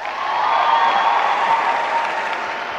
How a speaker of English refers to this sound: I personally like cats more than dogs. How many people, by round of applause, like cats more than dogs? Me too.